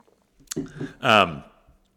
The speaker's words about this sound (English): I don't know why I'm so congested. Excuse me. Let me grab a sip of water.